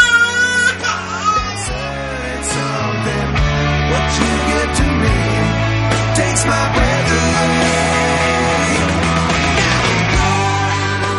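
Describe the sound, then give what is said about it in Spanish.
A baby in pain cries loudly and without pause, a strained, wailing cry that keeps going across the whole stretch, with no talking. “Para los expertos, el hecho de que el dolor sea la emoción más fácil de reconocer puede tener también una explicación adaptativa, ya que el llanto es una advertencia de una amenaza potencialmente grave para la salud o para la supervivencia”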